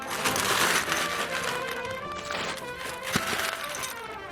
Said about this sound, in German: So klingt es, wenn eine ganze Schaufel Bonbons in einer Tüte landet. Auf der Wiesn gibt es sogar einen Stand, der sie selber herstellt. Die Bonbonmanufaktur.